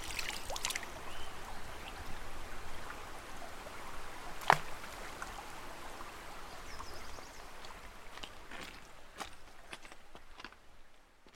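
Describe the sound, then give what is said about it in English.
River water flows with a steady rushing wash, broken by scattered small splashes and one sharp tick midway, then thins out toward the end. No one speaks. “But more than anything else, it may be rivers.”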